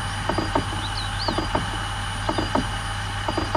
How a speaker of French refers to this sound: Ce sont des petits à-coups que donne la moto pour nous rappeler qu'elle est prête à partir. C'est une alerte sur cette moto silencieuse qui n'a ni embrayage ni vitesse, car il suffit de tourner la poignée pour partir comme avec un scooter.